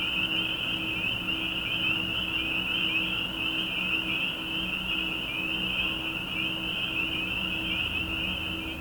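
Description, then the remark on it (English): A dense chorus of spring peeper frogs, their high-pitched peeps overlapping into a steady, shrill shimmer that holds for the whole stretch over a faint low hum, with no voices. “I don't think I would know that that's a frog, and that's the spring peeper.”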